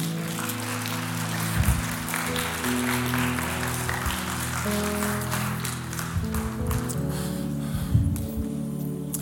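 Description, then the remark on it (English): A standing church audience claps for Jesus steadily for several seconds, a dense, even wash of many hands, while sustained keyboard chords hold underneath, with a few louder swells of clapping. “Why don't you all stand to your feet and go ahead and give Jesus a big clap.”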